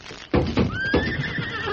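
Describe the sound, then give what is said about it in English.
A horse tied up in a barn stall at night whinnies, a loud, wavering neigh that rises and trails off, accompanied by several heavy hoof thumps on the ground. “There's your horse tied up in that stall.”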